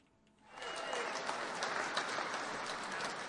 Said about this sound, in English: And listen to the maggots just clap. Ooh, they love it. Oh, they love it when they hear about people going to stomp the libtards.